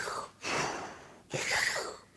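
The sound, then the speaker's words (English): A voice mimics the breathing of a scuba diver at 30 meters depth: two long, hissing breaths in a row, an inhale then an exhale, fairly loud, with no talking. “And I can just hear the breathing, you know.”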